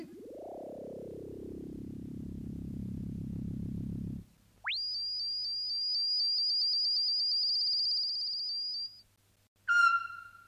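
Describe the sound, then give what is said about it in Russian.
A phrase in bird language produced by a talking machine: synthetic birdlike tones, a buzzy, descending harmonic sweep, then a long, steady, high warbling whistle, ending in one short bright chirp. No voices are heard. “Хотите услышать эту фразу на птичьем языке?”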